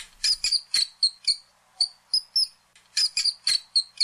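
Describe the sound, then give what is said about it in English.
An agitated water vole squeaks in rapid, shrill bursts, a dozen or more sharp high chirps in uneven clusters, fairly quiet, with a short pause midway and no talking. “The sound of an angry water vole squeaking.”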